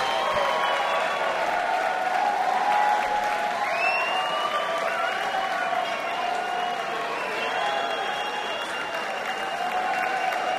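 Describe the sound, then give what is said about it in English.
A large crowd applauds steadily after a song, the dense clapping holding at a loud, even level throughout, with cheering and whistle-like cries rising above it. “Boy, this crowd loved it.”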